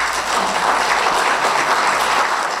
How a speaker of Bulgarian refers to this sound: Моля да изпратим нашата подкрепа към всички страдащи и към онези, които се грижат за нашето здраве, с аплодисменти.